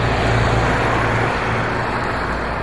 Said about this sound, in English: So we'll see how that does out here in this kind of traffic situation. Might actually turn out to be a little bit better.